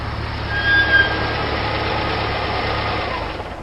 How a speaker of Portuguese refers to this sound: 5 minutos depois e vocês já veem os furgões estacionando na frente do beco. Eram os carros da agência.